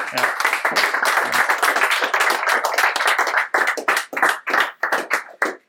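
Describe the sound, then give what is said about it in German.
Audience applause welcoming a guest: a dense patter of many hands clapping at once, loud and steady for a few seconds before thinning into scattered, separate claps and fading out. “Applaus für”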